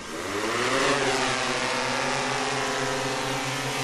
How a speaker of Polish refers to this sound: A pana bym prosił o przesunięcie się troszkę, ponieważ dron po starcie odleci do przodu.